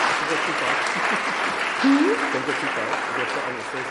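An audience at a book talk claps steadily for about four seconds, a dense, even wash of hand claps at constant loudness, with a brief rising vocal whoop partway through.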